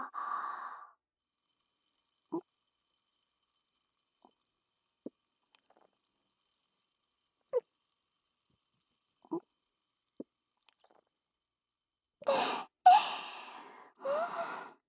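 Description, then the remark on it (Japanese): Champagne is poured and swallowed by two people: a few separate, soft gulps or drips spaced across a quiet stretch, then louder splashy fizzing pours with breathy gasps near the end. No one speaks. “シャンパンごっくんタイムも終わったし”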